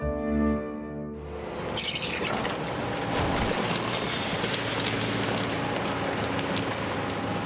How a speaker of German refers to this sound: Mit dem Müllauto.